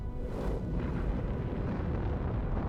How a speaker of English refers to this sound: Three troopers destroy the X-Wing with laser cannons. From a sand dune, BB-8 sees the distant explosion.